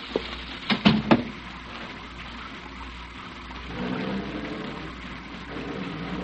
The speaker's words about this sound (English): Well, I think you better get out of the rain.